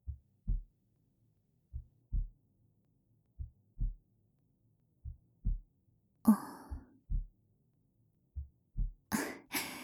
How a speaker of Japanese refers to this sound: 聞こえてしまっているのかい？僕の心臓の鼓動。そうだよ、ドキドキしてるんだ。